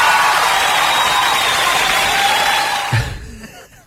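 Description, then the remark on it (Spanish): A steady wash of audience applause and crowd noise during a live show fills about three seconds at fairly loud level, then breaks off abruptly and fades into near silence. “¡Aplauso!”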